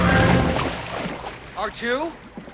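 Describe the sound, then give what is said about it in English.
A loud splash as R2 loses his balance and drops into a boggy lake, followed by sloshing and a few warbling electronic beeps that fade out. “R2 loses his balance and disappears with a splash into the boggy lake.”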